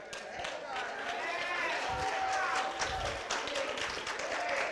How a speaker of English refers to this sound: And now the women want to clap now.